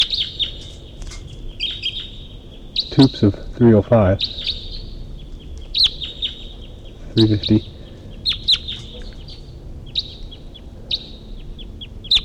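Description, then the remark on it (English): A wild bird that flew over calls from a distance with a steady series of short, high-pitched chirps running throughout, fairly faint, while a person speaks briefly twice over them. “And there's a wild bird. A wild bird at least flew over. And it's calling from the distance.”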